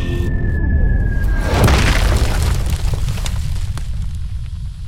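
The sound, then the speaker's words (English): A whistling tone gives way to a loud, crashing boom with a broad burst of noise, followed by a heavy rumbling roar that slowly fades, like a meteor slamming into the ground. “Worm was stopped by a meteor.”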